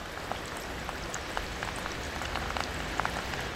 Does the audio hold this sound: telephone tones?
no